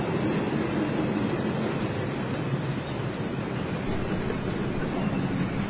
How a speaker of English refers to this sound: Oh, this could be the freight train I was waiting for. Hold on. Yeah, that looks like a freight train. There we go. Look at that. That's a thing of beauty.